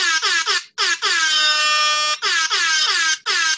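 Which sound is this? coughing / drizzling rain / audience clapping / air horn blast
air horn blast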